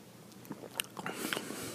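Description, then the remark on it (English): A quiet sip of a hoppy American wheat beer: a few soft wet mouth clicks, then a brief airy slurp and swallow, with no one talking. “Let me take another sip now that I'm kind of expecting that.”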